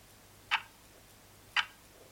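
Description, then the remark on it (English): Two crisp, evenly spaced ticks about a second apart, like a clock ticking but not exactly once per second, heard after pressing a blue button on a panel, sounding clear against a quiet background hum, with no one speaking. “It's a clock ticking, isn't it? Well, not exactly, because you see, Marriott, a clock, if it's accurate, should tick exactly once every exact second.”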